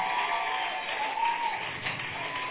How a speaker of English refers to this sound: If indeed they blessed you since yesterday up to this moment, can you make it from the depths of your heart and do a resounding clap, please? Let's do this.